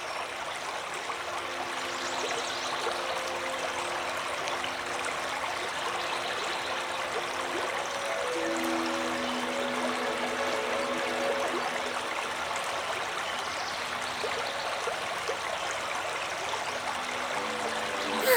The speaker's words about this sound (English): Look, it's a little river. Winding down through the Irish Valley. Let's listen.